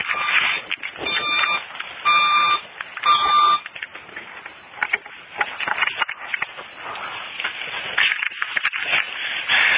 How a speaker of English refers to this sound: Alarm went off.